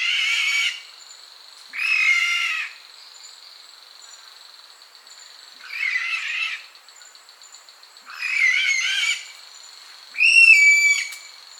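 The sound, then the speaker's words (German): An Aldabra white-throated rail gives five harsh, raspy calls at uneven intervals, loud, over a steady thin high-pitched drone in the background. No one speaks. “Der Vogel der Woche, die Aldabra-Weißkehlralle.”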